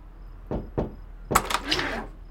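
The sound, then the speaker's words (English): Two sharp knocks on a motel room door in quick succession, followed by a louder, busier flurry of knocking and rattling that lasts about half a second. “There's such an easy way to stop everything that's coming. Just don't knock.”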